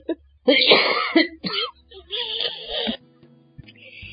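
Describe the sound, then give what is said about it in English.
A harsh cough followed by a few rough bursts of throat clearing, loud and broken into uneven fits over a few seconds, with a faint hiss trailing off at the end. “Wow, I don't know where that cough came from.”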